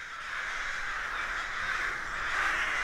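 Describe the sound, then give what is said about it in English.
A large flock of crows caws all at once, the harsh calls overlapping into a dense, continuous chorus that holds steady and swells slightly toward the end, with no one speaking. “One of the coolest collective movement behaviors that I have personally observed is that of flocking in crows and jays and ravens, which are the birds in the family of Corvidae.”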